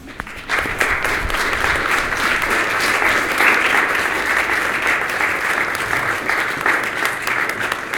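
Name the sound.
audience applause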